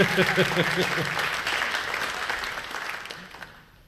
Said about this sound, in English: Thank you very much. Give them a clap. Thank you. Very wonderful.